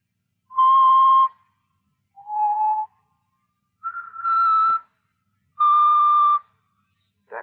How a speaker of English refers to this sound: That song. Did you ever hear it before? Yeah. Bet you did. He's always whistling it.